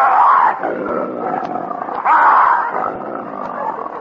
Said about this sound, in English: Rex, the king of the jungle. The most ferocious lion in captivity.